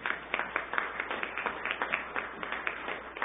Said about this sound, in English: a nice warm welcome with an applause.